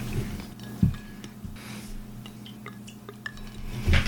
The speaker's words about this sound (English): We can put some water in the scotches and see how they hold up.